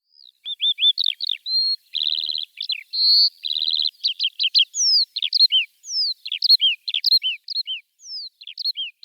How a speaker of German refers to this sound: Und überall hoch am Himmel war der Gesang dieser Feldlerchen. Und das finde ich toll, wenn ich da laufe, dass ich da diese Vögel höre.